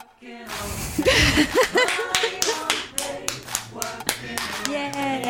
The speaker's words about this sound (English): I think that's it. Well, round of applause.